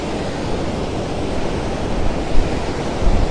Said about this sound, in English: Wow, that's windy.